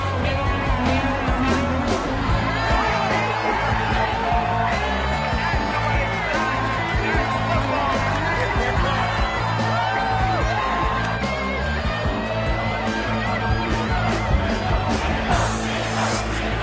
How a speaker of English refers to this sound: And listen to this crowd right now. How long has it been since we've heard that? The Eagles drawing new life from this crowd